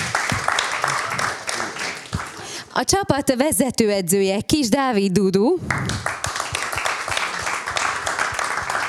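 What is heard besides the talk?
audience applause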